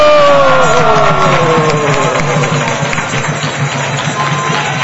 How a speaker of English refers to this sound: Maybe let us hear him very attentively and let us greet him warm-heartedly with full applause and shouting of Haribo. Haribo!